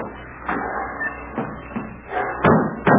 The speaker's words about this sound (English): Oh, don't you know when you slam a door, you shatter my nerves?